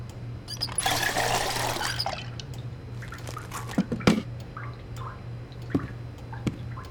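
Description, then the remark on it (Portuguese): Water pours briefly into the dog Hércules's water bowl with a rushing splash, then a few scattered drips and light clinks follow against a steady low hum; no one speaks. “Oh, mas é tão difícil sem pôr água pro cachorro.”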